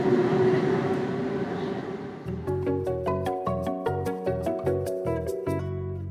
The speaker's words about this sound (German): Schließlich fahren beide Züge etwa 5 Minuten zu spät ab.